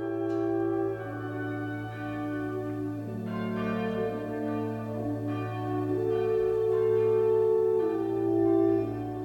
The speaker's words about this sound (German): Und auf den Wellen des Windes reitet der Ton heran, heran, herübergetragen an Ohr und Herz. Sonntags um 12 schlägt immer eine Glocke an.